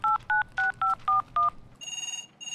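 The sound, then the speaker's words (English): Six short, evenly spaced dual-tone telephone dialing beeps, crisp, as a call is placed on a shell-shaped phone, followed by a steady electronic ringback tone pulsing on the line. “Oh, it's ringing.”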